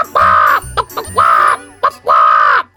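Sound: parrot squawking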